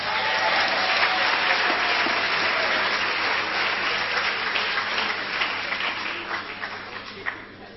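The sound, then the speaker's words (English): Sustained audience applause after the announcement that government will zero rate sanitary pads from 1 April 2019, a dense wash of many hands clapping at steady loudness that begins to thin and trail off toward the end. “I thought you'd clap.”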